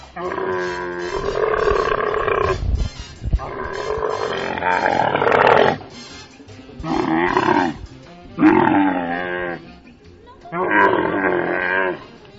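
A camel, Jeffrey, grumbles loudly in a series of about five drawn-out, throaty groans and bellows, rough and gurgling, separated by short pauses, with no talking over them.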